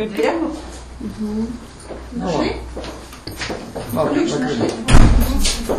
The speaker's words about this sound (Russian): Да и прикройте на всякий случай. Ключ там в дверях должен быть? А он в дверях же был. Или забрали? Нет, он был в дверях.